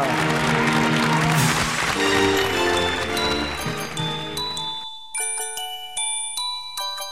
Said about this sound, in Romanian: Aplauze, dragi prieteni, pentru această fetiță fantastică! Aplauze și pentru Millennium Fantasticus și emisiunea lui fantastică!